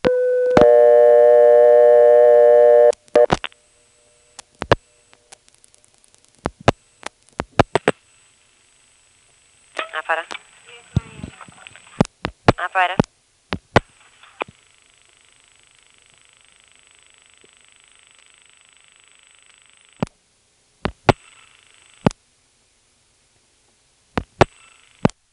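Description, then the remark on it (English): On a coin phone, a steady telephone tone stops. Sharp clicks of rotary dialing come in quick bursts, dialing 1 for the trunk to Greenville, then another 1, then two more digits to reach the operator. Warbling trunk signaling tones, a faint line hum and a few more clicks follow, with no talking. “we can also get the operator quickly by dialing 1 from here to get the trunk to Greenville, then another 1 to make Greenville think I really dialed 0, then 2 more digits which get the operator on the line faster.”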